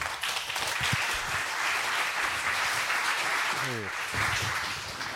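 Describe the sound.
An audience breaks into steady applause, a dense, continuous wash of many hands clapping that holds at an even loudness throughout, with a faint voice briefly audible beneath it.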